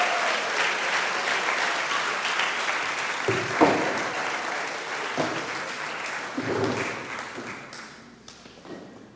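An audience claps steadily for several seconds, a dense wash of applause with a few louder thumps, then it thins out and fades toward the end.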